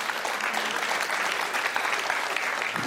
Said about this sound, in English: I can tell you that the men and women of our pastoral staff in this church are of exceedingly high character. They're pursuing... We got to clap for this, guys.